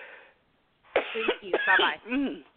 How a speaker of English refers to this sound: I got the coughing. I need to get some water.